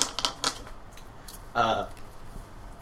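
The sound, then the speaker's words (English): A quick run of crisp clicks and flicks as playing cards are gathered and shuffled, followed by a brief murmur of a voice and quiet background noise. “Pass me all the cards.”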